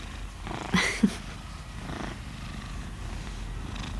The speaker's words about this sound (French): C'est une boîte à ronrons.